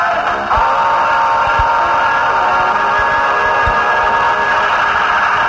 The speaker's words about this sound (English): I beg to apologize for the little scratches and bangs that we're getting, but the guy next door got a present of a Black & Decker drill for his birthday, and he's doing some home improvements, and that's what the noise is.